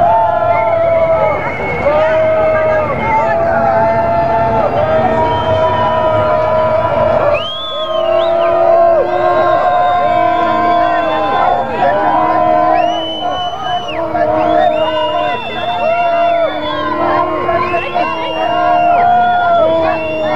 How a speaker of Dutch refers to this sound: Langzamerhand komt de stoet richting Rock in en het gejoel begint nu echt.